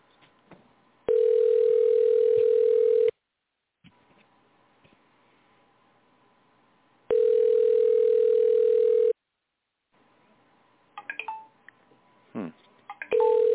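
A telephone ringback tone from an outgoing phone call sounds in two long steady beeps, each about two seconds, separated by a pause with faint line hiss, followed by scattered clicks and rustles.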